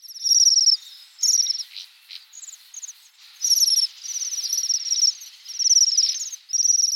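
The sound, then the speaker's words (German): High, thin buzzing trills from Bohemian waxwings, repeated in bursts of overlapping ringing calls for several seconds, with no voices. “Und das Besondere auch am Seidenschwanz ist, er ist ja ein Fruchtfresser, zumindest im Winter.”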